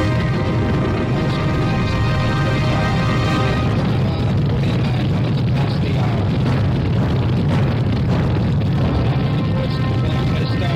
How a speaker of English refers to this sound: We have ignition sequence start. Engines on. 5, 4, 3, 2. All engines on.